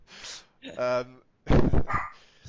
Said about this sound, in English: And I was like, oh man, that dog. I'm sorry, guys. He's been going nuts today. Oh my God.